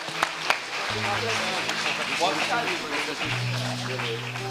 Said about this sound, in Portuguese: Queria que você aplaudisse a Jesus pela vida deles, amém? Aleluia.